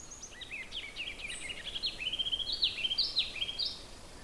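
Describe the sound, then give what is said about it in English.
A songbird moving around the branches of a large white birch sings a fast, repeated trilling song of high, bright notes, the phrases tumbling together over a few seconds with no talking. “I'm actually moving a little closer to this bird you just heard. Kind of went did-did-did-did-did-did-did-did-did-did. It was part of its song.”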